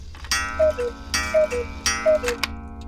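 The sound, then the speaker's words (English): A grandfather cuckoo clock in a studio strikes two. Each soft two-note falling cuckoo call follows a sharp wooden clack, in a steady rhythm against a quiet background hum. “a grandfather cuckoo clock that belonged to his father strikes two.”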